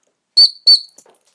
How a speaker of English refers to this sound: So I'm putting the bowl down between my legs, standing up, getting the whistle out without dropping it.